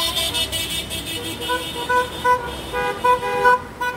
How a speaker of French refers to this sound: Les klaxons que l'on entend ici, ce n'est pas la joie des supporters après une victoire du club local, mais le son d'une manifestation, le 1er mai, dans les rues d'Araraquara, quelques dizaines de voitures, certaines avec des drapeaux brésiliens